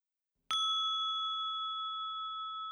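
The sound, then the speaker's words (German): A single meditation gong, marking the end of a breathing-observation exercise, strikes sharply and then rings on with a steady, bright sustained tone that barely fades, heard alone with no voices. “Wenn Sie das jetzt mal bitte üben wollen, während der Gong Anfang und Ende der Übung markiert.”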